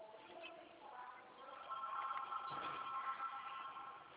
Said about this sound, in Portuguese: O telefone não para, menina.